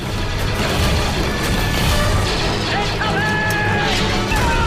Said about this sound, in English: On Obi-Wan's instruction, long-barreled Republic cannons open fire.